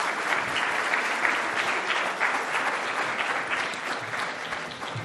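Sustained applause from an audience welcoming a guest speaker, a dense wash of many hands clapping at steady loudness throughout, with no talking over it.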